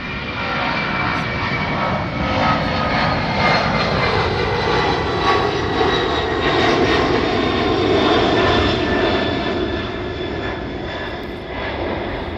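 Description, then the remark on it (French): A steady, loud drone of airplane engines in flight fills the whole recording, with a constant low rumble and faint sustained whining tones above it, no voices or pauses. “Sinon, il y a ce bruit de fond qui est le bruit des moteurs.”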